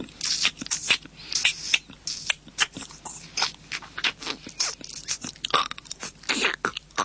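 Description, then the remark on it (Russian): The actor Yursky's voice imitates cicadas and a praying mantis in a role, with rapid, dry clicks and raspy chirring bursts in an irregular, crackling rhythm, fairly loud throughout, with no ordinary talk. “Это тоже Юрский, но в роли цикад и жука-богомола.”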